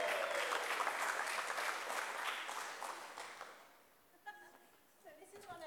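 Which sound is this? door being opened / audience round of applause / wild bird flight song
audience round of applause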